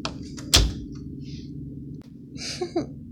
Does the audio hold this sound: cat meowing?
no